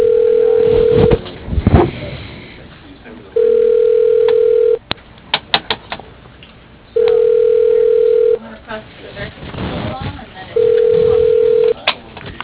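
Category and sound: signal or alarm, telephone dialing and ringing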